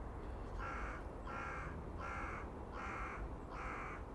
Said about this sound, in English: And it is a crow morning. One of those slightly foggy, but fairly calm mornings that, I don't know why, but crows, well, the crow family seems to like, because that's the mornings you usually crow most.